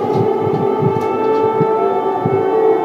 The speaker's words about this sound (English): An air raid siren blares amid a Russian drone attack on the Ukrainian capital. The head of the capital city administration, Serhiy Popko, called it the most massive air attack by drones on Kyiv.